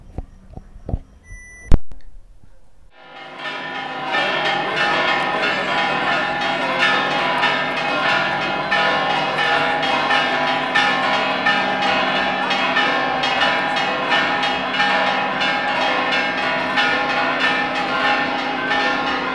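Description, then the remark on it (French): Church carillon bells ring continuously in a dense, clashing peal as a procession follows a statue of the Virgin, many tones overlapping loudly and dissonantly, following a couple of brief sharp knocks at the start. “Les carillons sonnent, et, très dissonant quand même.”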